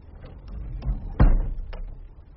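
A door swings shut with one solid, low thud, preceded by a few light clicks and taps from the handle or latch and followed by a soft click. No voices.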